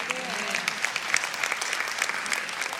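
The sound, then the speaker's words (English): A steady patter of audience applause, moderate in volume and fairly even, with dense overlapping claps and faint voices murmuring underneath. “The applause was good. It was tepid, but it was good.”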